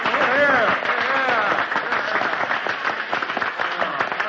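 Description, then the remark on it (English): At a reunion in the Grand Army Hall in Milwaukee, Wisconsin, members of the old 24th rise and burst into applause for Arthur on the speaker's platform: dense overlapping clapping at steady strength, with some voices calling out at the start before the clapping carries on alone. “And as Arthur stood up on the speaker's platform, they all rose and applauded him.”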